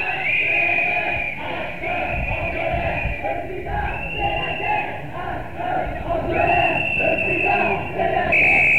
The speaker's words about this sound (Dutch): Het is in ieder geval een hele krachtige demonstratie. Dat kan ik niet mee ophouden dat te blijven zeggen. Nou, we lopen nu de Leidse straat in.